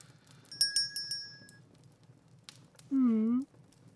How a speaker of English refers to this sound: Oh, well, it's simple. I just have different ways of ringing the bell to call over different people. They probably all sound the same to your human ears, but we monsters can more easily tell the difference.